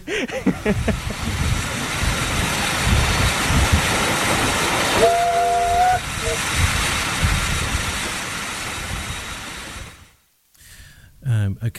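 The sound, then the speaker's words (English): A steam locomotive with a fairly enclosed cab runs on the East Somerset Railway at Cranmore, with a steady, heavy rumble and hiss, a short whistle tone sounding partway through before the noise cuts off briefly near the end. “This particular engine is very hot. It's the cab is fairly enclosed. You're very close to the fire”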